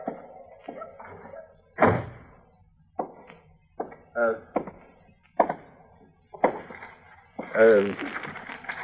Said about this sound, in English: Will you close the door, Chester? The wind's blowing these papers I'm trying to get signed.